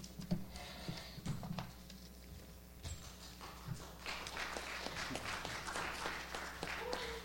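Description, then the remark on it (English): An audience applauds a speaker who has just been introduced: a dense patter of many hands clapping that builds after a few seconds and carries on at a steady, moderate level to the end. “I'm already getting applause.”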